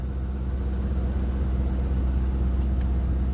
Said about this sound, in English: Oh, it's a car, man. Those shit sound like a dirt bike.